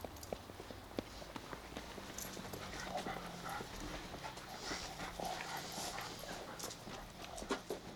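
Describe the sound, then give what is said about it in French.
A dog pants while its paws scuffle and tap on hard ground, with scattered clicks and shuffling movement over a low, steady outdoor background. “Les chiens à la rue, les chiens, c'est une seconde famille, quoi.”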